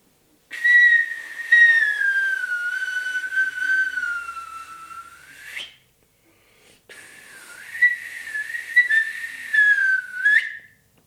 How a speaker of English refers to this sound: is called an iwabue, which is a Japanese word for stone flute. And these stones have holes in them, which I use in a flute-like manner. But there's been no human intervention whatsoever. You're just blowing on stones that have natural holes in them.